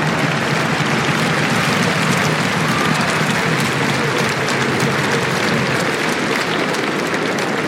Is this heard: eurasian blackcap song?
no